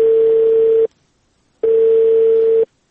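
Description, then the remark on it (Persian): A telephone line tone after the call drops: two long, steady mid-pitched beeps, each nearly a second, separated by a short silence, loud and with no voices. “بله سیب، تلفون قطع شد.”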